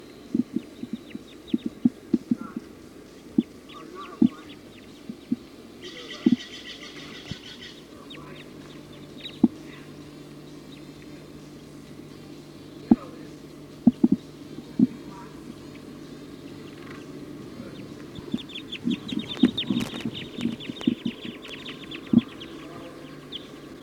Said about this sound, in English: The flock is perched in the top of a pine tree here. Way at the top. I don't see any birds coming down at all. Stop. And they're quiet. Recording the flock is calling now.